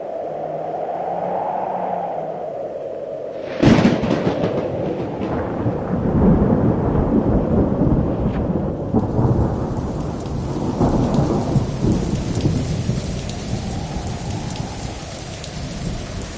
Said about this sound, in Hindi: परमेश्वर ने जहाज का दरवाजा बंद कर दिया। उसके बाद बारिश शुरू हो गई।